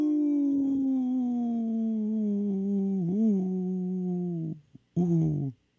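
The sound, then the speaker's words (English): A wolf's long, steady howl slowly sinks in pitch for over four seconds, then breaks off; after a brief pause a second, shorter howl rises and fades. Loud and clear, with no talking. “This portion of the show is supported by Howling for Wolves, protecting wolves for future generations. Howl! Howl! Howl!”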